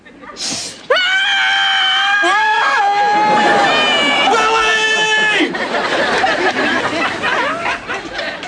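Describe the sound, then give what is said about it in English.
Several people scream outside, long high-pitched wails overlapping and rising and falling for several seconds, with a background murmur of crowd chatter that lingers as the screams fade. “What's going on out there? Nothing. Just screaming.”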